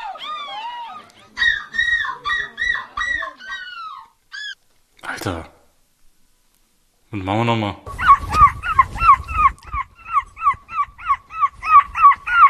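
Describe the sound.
People imitate seagull cries at a seagull-screaming contest in Belgium, with shrill, wavering wails in several bursts, ending in a fast rhythmic run of repeated squawks. A short spoken phrase breaks up the calls.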